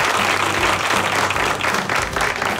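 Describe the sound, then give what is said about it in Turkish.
An audience breaks into steady, loud applause, a dense wash of many hands clapping at once that fills the whole clip without pause. “Bir alkış!”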